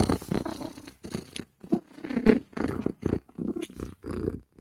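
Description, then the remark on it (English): A female cat purrs, a loud, rumbling purr that pulses in steady breathing cycles with brief pauses between each rumble. No one speaks. “If cat is purring, cat is a happy, happy girl.”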